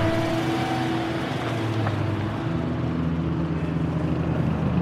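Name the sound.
police car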